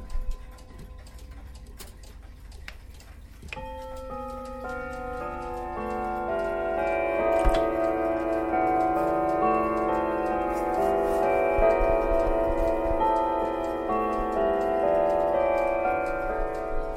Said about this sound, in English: Of course, we can't not have the mighty Mel here on Whittington chime.